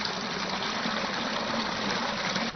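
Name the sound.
water draining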